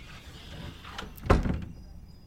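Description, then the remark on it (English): A single door slams shut with a loud, sharp thud, preceded by a brief rattle of the door moving, then the sound fades into quiet room tone. No one speaks. “The only way he knows it wasn't an aberration is the sound of a slamming door.”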